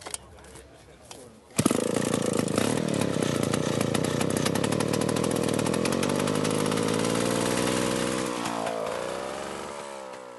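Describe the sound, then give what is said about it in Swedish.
A chainsaw from 1948, from a collector's collection of old chainsaws, is started by its owner: the engine catches abruptly and roars, running loud and steady with a buzzing, uneven rasp, then slowing and sputtering toward the end. Quiet rustling precedes the startup. “som precis fick igång sin motorsåg.”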